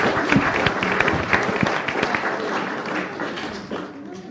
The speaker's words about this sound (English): Let's give her a lovely big clap.